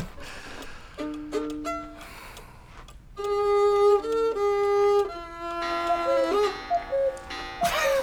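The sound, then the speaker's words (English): A cuckoo clock chimes in a run of clear, tuned two-note calls, some short and quick, others held longer, stepping between pitches at moderate loudness with no talking over it. “I've never been upstaged by a cuckoo bird.”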